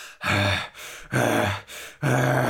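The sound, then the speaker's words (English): Three loud, heavy breaths in a steady rhythm, each a rough, voiced huff close to the mic, like a person imitating angry, labored panting with no words spoken. “The huge fairy panted angrily.”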